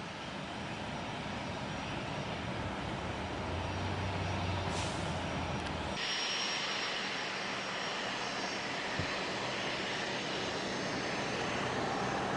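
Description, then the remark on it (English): A steady, loud roar of an airplane engine running on the tarmac, broad and unbroken for the whole stretch, with its tone shifting partway through as a high whine drops away. No one speaks. “So I went to the other side of the building to see the plane.”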